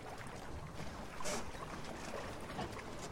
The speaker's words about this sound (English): It's a sailing boat, all white, with 8 seats. It's made of heavy plastic glue and I don't know what else.